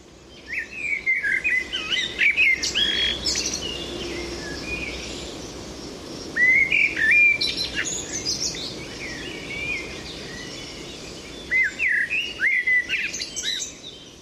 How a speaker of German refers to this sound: Wenn man sich den Amselgesang also näher anschaut bzw. anhört, dann kommt man früher oder später nicht umher, sich auch mit der Misteldrossel näher zu beschäftigen, die vielleicht doch weniger bekannt ist als die Amsel.